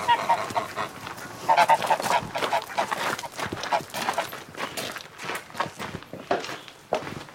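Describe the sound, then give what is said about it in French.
A flock of geese honk steadily in a farmyard, their calls overlapping and continuous, with footsteps shuffling underneath. “Vous avez des poules ? Oui, oui. Des poules, des canards, des oies.”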